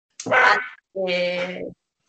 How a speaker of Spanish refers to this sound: Espérate, porque están ladrando mis perros, las escuchas de repente en plan a mis perros ladrando como locos